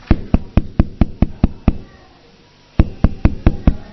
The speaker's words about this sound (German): Er war also gerade dabei, sich vom Stuhl zu stürzen und sich zu erhängen, als plötzlich jemand klopfte.